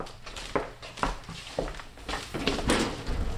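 A cabinet drawer is pulled open nearby, with a series of wooden clunks and rattling knocks spread over a few seconds and a low room hum underneath. No one speaks.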